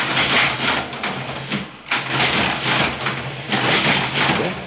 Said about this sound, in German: Jetzt rechnet die Maschine für die Zahlen. Sie geht und erfüllt ihren Zweck und macht das, was wir brauchen, voll ausreichend.